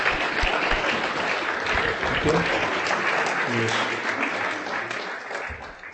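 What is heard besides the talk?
audience applause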